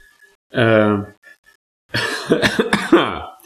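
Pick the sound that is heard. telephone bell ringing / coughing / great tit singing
coughing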